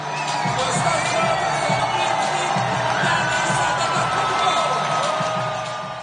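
A big arena crowd at a Milwaukee Bucks home game on Greek night applauds and cheers during the starting lineup introductions, loudest for Giannis, in a steady, dense roar, with whoops and shouts rising above the clapping throughout.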